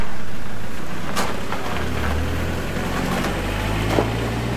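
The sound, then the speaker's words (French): Steady engine drone and broad road rumble from inside a moving car about to arrive at Saint-Pierre-d'Albigny and take the Col du Frêne, with a constant low hum and occasional faint clicks, no voices. “Retour dans la voiture, on s'apprête à arriver à Saint-Pierre d'Albigny, à prendre le col du Fresne”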